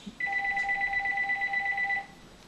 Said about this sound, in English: So excuse me a second here with that phone.